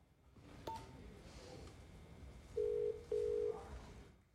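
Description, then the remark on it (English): A mobile phone call, made by a woman in a corridor as she leaves, rings as two steady, fairly loud buzzing bursts in quick succession, after a short beep earlier, over a faint background hiss with no one speaking. “She pauses in the corridor as she's leaving, then gets out her phone and makes a call.”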